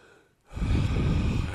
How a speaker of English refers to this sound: But here, with the breathing, it's you're saying, okay, come on, back now. Breathe, in.